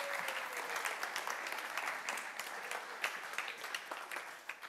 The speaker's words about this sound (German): Und ich habe zwei starke Männer eben gefragt und einen kleinen Applaus